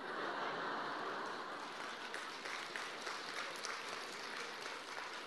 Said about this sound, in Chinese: 鼓掌的人不多，不讲了。